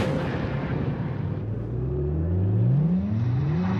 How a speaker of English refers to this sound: We took the power of a 9-year-old V8 and gave it the impressive handling of Firestone's Destination tire.